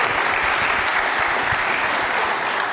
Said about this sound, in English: We give a round of applause.